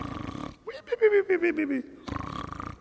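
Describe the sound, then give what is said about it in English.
A man's voice imitates an exaggerated cartoon snore, a single drawn-out, wavering nasal rumble with pulsing rhythm, fairly loud, with brief bursts of speech-like sound before and after. “Some of you snore that way, I suppose, but that's the way they do it in the cartoons, at least.”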